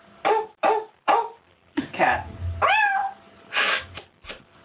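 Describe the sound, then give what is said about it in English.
A girl's voice in a video imitates a dog, with three quick, sharp barks followed by higher, drawn-out whines and yelps, fairly loud. “Dog.”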